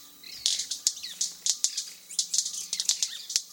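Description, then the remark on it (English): A South American manakin's sharp wing snaps crackle in a quick, irregular series like small firecrackers, fairly loud, with faint bird chirps in the background. “Mannequins, the original safe and sane fireworks, made in South America.”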